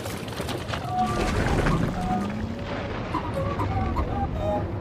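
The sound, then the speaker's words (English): A boat pulled by a droid moves slowly downriver through a tunnel toward the lava flats, its low engine-like rumble continuous and fairly loud, with faint whistling tones and creaks drifting over the churning background. “The boat ferries slowly down the infernal tunnel, passing through pockets of sunlight from cracks in the ceiling.”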